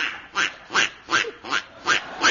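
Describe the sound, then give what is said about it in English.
A comic duck quacks six times in a quick, steady rhythm, each quack a short nasal burst, clear with no talking. “It says, manufacturer's warning, this chicken is a Bombay duck. But I heard it clucking in Chinese then.”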